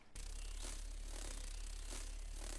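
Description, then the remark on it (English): A continuous, steady buzzing hum of hummingbird wings, low-pitched and droning with a rough, airy edge, holding an even loudness throughout with no pauses or voices. “Lawnmower in the distance? Nope. Hummingbird wings.”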